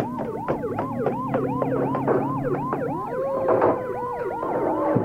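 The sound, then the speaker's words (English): Two military-type Red Cross trucks approach down a narrow street with several overlapping sirens wailing in fast, rising-and-falling sweeps over a steady low engine rumble, loud, with no one talking. “do you hear that? The Red Cross trucks are heading this way.”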